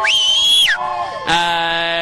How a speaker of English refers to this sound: It's got a nice ring to it. Definitely a phrase I can get used to hearing. It hasn't completely set in yet. I'm still listening to people cheer.